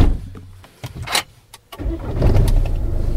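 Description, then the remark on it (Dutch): A few clicks and a door-like thud as someone settles into a car, then the engine cranks and catches, settling into a steady low rumble. No one speaks. The car is being started to leave the Houtzagen en Keizer horse stables. “En stappen we nu de auto in, gaan we weer afscheid nemen.”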